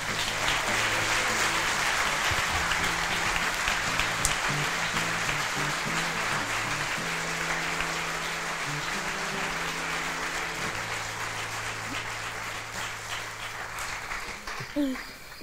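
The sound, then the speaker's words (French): Loud, steady applause from an audience as Céline Tran is introduced fills the whole stretch, a dense wash of clapping that barely fades, with a low musical line playing underneath and tapering off near the end. “Merci d'applaudir très fort Céline Tran.”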